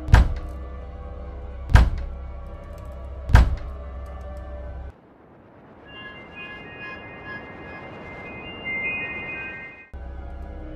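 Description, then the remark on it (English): Large, powerful hands bang heavily on a door: three loud, booming thuds spaced slowly apart over a low rumble, then a stretch of hissing noise with a faint high whine before the rumble returns. “Large, powerful hands banged on my door.”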